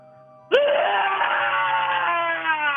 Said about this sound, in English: Let's hear your scream once and for all.